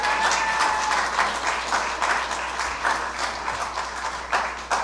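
A crowd applauds steadily for several seconds, dense overlapping claps filling the room at a fairly loud, even level, with a brief whistle-like tone near the start.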